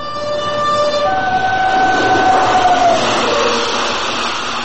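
A train rumbles past over a bridge, a loud, steady roar lasting several seconds, with sustained horn-like tones ringing over the clatter. No one speaks.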